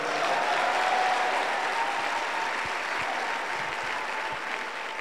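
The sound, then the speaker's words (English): A crowd applauds steadily for several seconds, a dense, sustained wash of many hands clapping at once with no voices standing out, staying fairly loud throughout. “Oh, you won't clap for me.”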